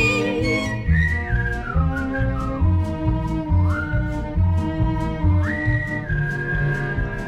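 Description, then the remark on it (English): Someone whistles a clear, gliding tune over a steady musical accompaniment with a regular beat; the whistled melody sits prominently on top and holds long notes between short slides. “Understand why it was he whistled all the day.”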